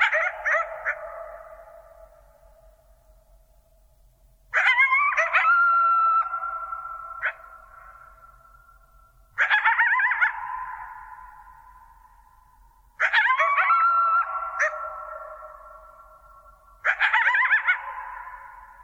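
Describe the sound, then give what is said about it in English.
Coyotes call out in the wild, five bursts of yipping and wavering howls arriving about every four seconds, each fading away before the next. No one speaks, and the background stays quiet. “But the point that I think that they really bring out is that if there were the slightest jet rumbling in the background, the experience of these coyotes would be entirely different.”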